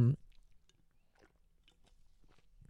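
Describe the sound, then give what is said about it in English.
Quiet sipping from an Olipop soda, with soft wet mouth clicks and a swallow or two spread over a few seconds after a brief vocal sound at the start. “Sorry, I had to take a sip of my Olipop.”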